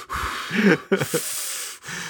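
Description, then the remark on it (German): Breathy puffs of air from a person breathing hit a microphone: a longer exhale, then a couple of short sniffing breaths, loud and noisy with no talking. “Olaf sagte, man hört mich immer atmen”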